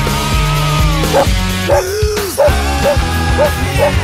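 A loud, bouncy musical jingle introducing the Dog News Bulletin segment, with steady sustained tones, punctuated by a series of short rhythmic dog barks and yips woven into the tune, roughly every half second.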